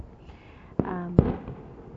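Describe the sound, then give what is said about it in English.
Two sharp firecracker bangs go off about half a second apart, loud, with a brief whistling tone ringing between them over a faint background hum. “In Vietnam, they ban fireworks now because it's dangerous.”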